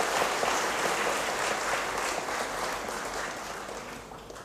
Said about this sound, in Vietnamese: Chúng ta hãy cho một tràng pháo tay thật lớn để tán dương.